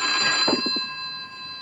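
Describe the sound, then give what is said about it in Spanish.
A telephone rings in a house in Rockaway while two burglars are inside, a steady, shrill electronic tone that holds through the whole moment, with a few soft low thumps briefly underneath partway through. “¿Crees que debemos contestar el teléfono?”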